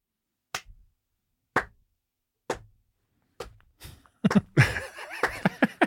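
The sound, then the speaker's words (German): Hand clapping: four slow, evenly spaced sharp claps, then a quicker, denser burst of clapping toward the end with some vocal sounds mixed in. “Es klatscht.”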